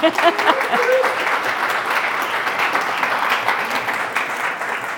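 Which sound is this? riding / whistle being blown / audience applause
audience applause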